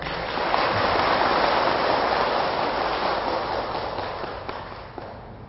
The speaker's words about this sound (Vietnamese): Để vượt qua cái nghịch lý nguy hại này đó, thì xin quý Phật tử hãy dâng cao tràng pháo tay để cam kết.